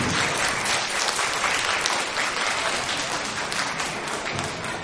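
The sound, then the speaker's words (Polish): The audience at a municipal cultural centre (Gminny Ośrodek Kultury) applauds steadily to welcome attendees at a performance showcase, many hands clapping in a dense, even wash of sound that stays loud and constant throughout, with no voices standing out. “Szanowni Państwo, witam bardzo serdecznie wszystkich, którzy przybyli do Gminnego Ośrodka Kultury ogromnymi oklaskami.”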